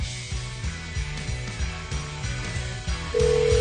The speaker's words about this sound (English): Phone rings. It's us. Pick up.